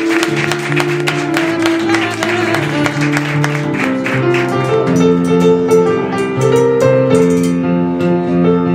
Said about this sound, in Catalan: Fort aplaudiment per ells i per la Neus.